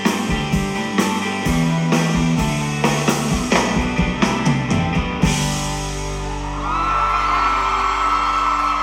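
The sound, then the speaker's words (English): Music with a strong steady beat and rhythmic hits gives way to a swelling wash of audience cheering and clapping that builds loudly and holds to the end. “Clapping, music, clapping.”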